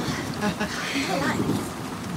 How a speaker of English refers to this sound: Do you have extra umbrellas? I mean, if it rains a lot. No, we don't have any extra umbrellas. But don't worry, I'm sure the rain will stop soon.